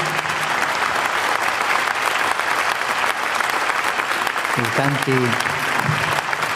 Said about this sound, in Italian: Sono bravi questi della liturgia, eh? Un applauso al maestro e a tutti.